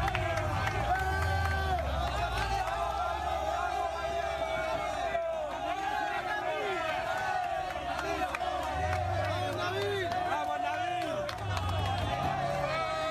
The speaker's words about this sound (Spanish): Aficionados alborozados junto al autobús del Leganés